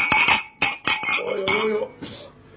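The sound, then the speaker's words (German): Several beer glasses clink together in a toast, a quick run of bright, ringing knocks, with a faint murmur of voices underneath as the clinking tapers off. “Du musst laut, anstoßen. Indem, ja, trotzdem anstoßen. Glas an Glas, es wird hinhauen.”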